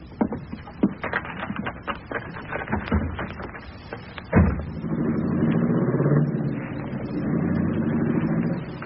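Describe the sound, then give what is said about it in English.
Clattering knocks and shuffling lead to a sharp car door slam, then an engine starts up and rumbles steadily as the car pulls away, fairly loud. “All right, that's got us. Let's get in the car and scram.”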